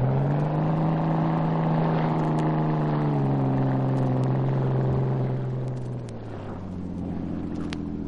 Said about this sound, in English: In a motorboat, Cato had been waiting alongside the yacht. He was ready when the Hornet dropped from the rail. He gunned the engine, and the small, fast boat raced toward the dock.